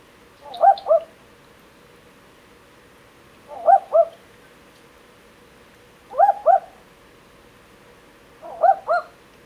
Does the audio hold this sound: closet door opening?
no